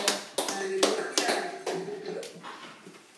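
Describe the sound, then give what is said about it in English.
A church audience claps a clap offering unto the Lord as it is seated, in uneven, overlapping bursts. Loud, sharp strikes recur every half second or so, with a sustained hum of voices and tones running beneath. “Please let's be seated with a clap offering unto the Lord.”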